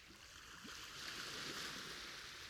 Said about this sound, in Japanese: あのさ、波の音って聞いてるとだんだん気分が落ち着いてこない？風が吹いてるけどそんなに強くないし、日差しもちょうどいい暖かさだし、眠くなってきちゃうな。